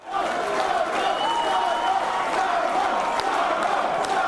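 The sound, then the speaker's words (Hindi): A large crowd of supporters in Australia applauds steadily while chanting "ScoMo, ScoMo" in unison, celebrating Prime Minister Scott Morrison's conservative coalition's election win. The dense clapping and rhythmic voices fill the space at a loud, sustained level throughout. “तालियों की ये गड़गड़ाहट और स्कोमो स्कोमो का नारा देते समर्थकों का शोर ये बता रहा है कि ऑस्ट्रेलिया में कुछ बड़ा बदलाव हुआ है।”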